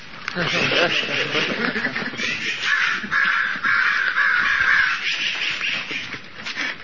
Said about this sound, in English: There is crow.